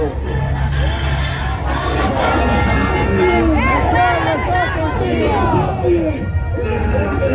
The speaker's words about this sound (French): Voilà, l'avion est en face du public, fait son demi-tour, va se mettre face à la piste d'envol, et le public continue de scander, chanter, hurler, pleurer, tous les drapeaux au vent